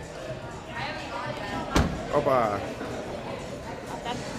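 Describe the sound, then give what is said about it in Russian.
A car door slams shut once with a sharp, heavy thud partway through, while a man talks before and after and exclaims just as it closes. “Хлопает дверка хорошо.”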